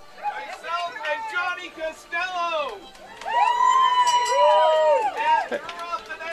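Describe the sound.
A man yells and screams in the background over a noisy crowd of chattering voices, the shouting swelling louder and more sustained in the second half.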